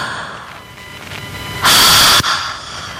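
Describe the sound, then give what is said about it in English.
A deep breath: a soft, airy inhale followed by a short, loud rush of exhaled air, with no talking. “I'm going to take a deep breath right now. Let it out.”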